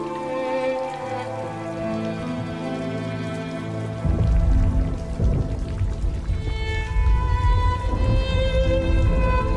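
Steady rain patters on a surface beneath sustained tonal music, growing louder and heavier about halfway through as a low rumbling wash joins the dense, continuous patter.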